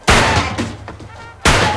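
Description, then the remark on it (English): Two loud gunshots from a gun a woman aims at a man ring out about a second and a half apart, each a sharp, booming blast followed by a rumbling, fading tail. No one speaks. “She aims a gun at Fred.”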